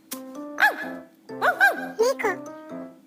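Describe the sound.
A voice imitates a dog barking, prompted by the word 'dog' during a series of voice impressions, giving several short yelping barks in quick bursts with rising and falling pitch, fairly loud.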